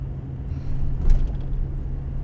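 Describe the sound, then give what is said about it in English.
A car's engine drones steadily as it drives through the devastated town of Paradise, a low rumble with a constant hum, rising slightly in the middle as if passing over rougher road. No voices are present. “Ludwig now drives through Paradise in her car, shaking her head sadly as she peers out at the devastation”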